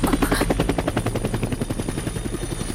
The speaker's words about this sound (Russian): Бомбить будут? Фейерверки снимают. Сегодня же праздник. Фейерверки. Мне про них столько рассказывали.